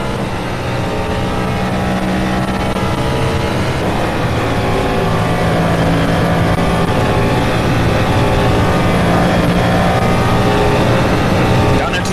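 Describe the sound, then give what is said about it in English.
A loud, sustained NASCAR-style race car engine at Daytona roars throughout, its steady harmonic drone rising slightly as the driver picks up the throttle early and gets hard on the accelerator. The sound is continuous, heard as if from on board the car. “Pick up the throttle way early with this particular car. Get hard on the accelerator, we're already out of the bus stop once again.”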